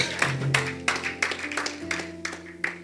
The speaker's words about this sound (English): Clap for the Lord Jesus.